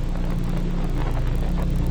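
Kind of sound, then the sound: vehicle, car approaching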